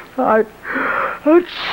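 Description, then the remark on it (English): A sneeze with a wheezy edge: a short voiced gasp, a stretch of breathy hissing, then another sharp voiced burst, all fairly loud and over in under two seconds. “God bless you.”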